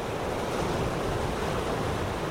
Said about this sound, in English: Off the top, we're going to take you to the coast. Hear that surf?